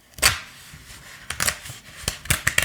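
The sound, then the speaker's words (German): A safe with gears, a digital number display and a dial like an old rotary telephone's being opened: a handful of sharp mechanical clicks and clunks at irregular intervals, with a louder clack at the start and a quick cluster near the end. No voices. “So hört sich das an, wenn man den Tresor öffnet.”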